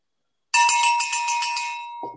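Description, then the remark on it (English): A bell, rung as a demonstration of the signal that a person's sharing time is over, rings out suddenly and loud, its bright metallic tone pulsing rapidly for about a second and a half before trailing off as another faint sound begins. “We're going to ask for a demo of the bell when you hear the bell.”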